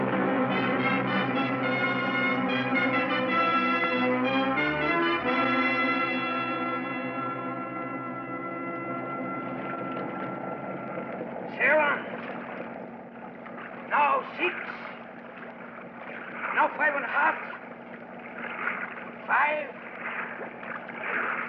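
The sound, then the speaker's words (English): Boat engines rev loudly, a rich droning whine that shifts pitch, then settles into a steady rushing churn broken by several sharp bursts of splashing water. “Now get your line out and let's get those engines revved up.”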